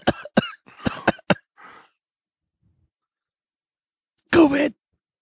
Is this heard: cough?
yes